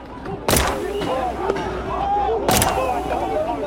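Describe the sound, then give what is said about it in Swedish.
Two sharp gunshots, warning shots fired by police officers near a police bus, about two seconds apart, crack loudly over a constant murmur of crowd noise and shouting voices from an approaching crowd of stone-throwers. “Jag hör ju det när jag sitter inne i bussen att kollegor avlossar varningsskott.”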